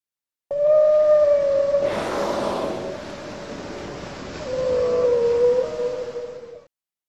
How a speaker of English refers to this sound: Is that the mom whale?